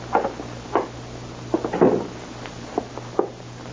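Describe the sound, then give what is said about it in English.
A door is opened as a policeman comes in, heard as a short series of wooden clunks and rattles spread over a few seconds, with a low steady hum underneath and no voices. “Sorry, Mr. Roy. I've got to come in.”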